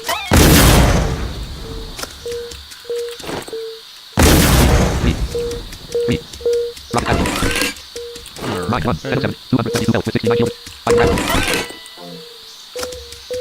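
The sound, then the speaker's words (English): Two loud, booming firework-like blasts go off a few seconds apart, followed by smaller crackling bursts, while a short electronic beep repeats steadily underneath. “Just started doing another crack. This sounds like a firework.”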